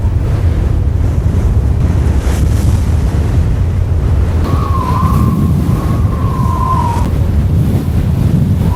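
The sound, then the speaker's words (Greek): Loud, roaring wind gusts sweep through continuously, with a rumbling low-end and surging, wave-like swells, and a faint whistling howl rising briefly midway. No one speaks. “Άγριοι άνεμοι ξεχύθηκαν από μέσα, στροβιλίζοντας ό,τι βρισκόταν στο πέρασμά τους.”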